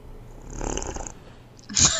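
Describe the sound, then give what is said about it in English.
Loud slurping of a drink: a long, wet, noisy sip, then after a brief pause a sharper, louder gulp at the end, with no talking. “someone eating or drinking or consuming something loudly”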